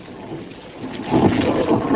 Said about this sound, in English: Listen, please. Do you hear it? The curious humming sound that seems to come from inside the object. I'll move the microphone nearer. Here.